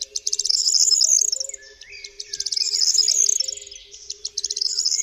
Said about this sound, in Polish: jeśli się właśnie teraz, kiedy tego słuchamy, wybierzemy na pola, bo to jest gatunek związany z otwartymi przestrzeniami krajobrazu rolniczego, gdzie są kępy krzewów, kępy drzew, to wsłuchując się w śpiew ptaków, możemy usłyszeć śpiew potrzeszcza.